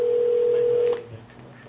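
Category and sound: signal or alarm, telephone dialing tones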